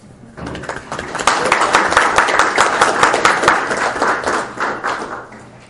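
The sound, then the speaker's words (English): A crowd breaks into sustained applause, many hands clapping densely for several seconds before tapering off slightly at the end. “So well, I think we all need to give a big round of applause”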